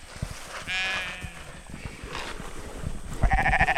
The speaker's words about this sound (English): has brought in a small flock of sheep to start reclaiming the soil. This is Raven. She's kind of the matriarch.